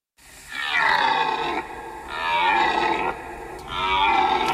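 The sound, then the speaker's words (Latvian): A red deer stag bellows three times during the autumn rut, long, loud, harmonic roars rising and falling, each lasting over a second with short pauses between, unaccompanied by voices. “Tātad tas ir brieža baurs.”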